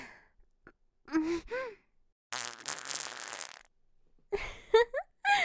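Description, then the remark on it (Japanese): A loud, raspy fart, made by compressing the gas in the belly, bursts out and sputters for about a second, framed by breathy vocal gasps and sighs before and after. “圧縮されたおならを目の前で爆発させちゃうの。”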